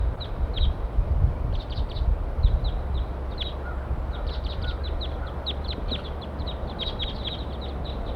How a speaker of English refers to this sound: There it goes. There they go. Up into a nearby pine. Eight birds all together now.